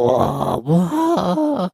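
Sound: voice imitating a roar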